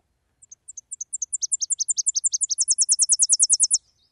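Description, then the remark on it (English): A Tennessee warbler sings a rapid, high-pitched series of chirps that starts soft, grows steadily louder, and speeds into a fast, bright trill at the end, with no voices. “This is a Tennessee warbler. If you hear this sound, that's what you're hearing.”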